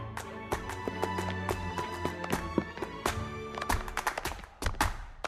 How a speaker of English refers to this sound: She starts clapping and stomping her feet.